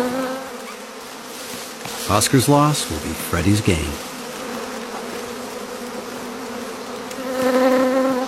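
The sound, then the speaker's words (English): A dense swarm of angry bees drones steadily around a honeycomb in a forest as chimpanzees try to reach the honey, the buzzing continuous, briefly overlaid by a man speaking before the hum swells louder at the end. “The honey's too deep for small arms to reach, and the bees are not happy.”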